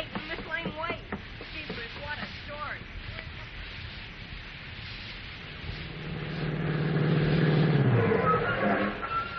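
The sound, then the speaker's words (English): A car engine starts up and revs, its low drone rising and growing louder over a few seconds. Brief voices are heard first, over a steady background rumble. “Well, come on. We'll take my car.”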